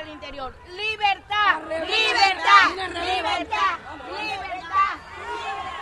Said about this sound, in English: Then a crowd of government supporters charges in.